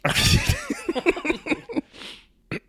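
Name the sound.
sneeze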